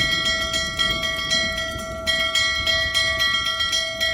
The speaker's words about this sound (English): Then on November 6th, 1661, during a heavy monsoon rain, a joyful bell summons Governor Coyette to the castle ramparts.